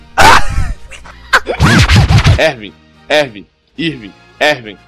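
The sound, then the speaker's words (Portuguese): A voice imitates Pluto, Mickey's cartoon dog, barking: a burst of loud, yelping barks, then a few shorter woofs spaced apart with brief pauses between them. “Já vou falar sobre Pluto, meu cachorro.”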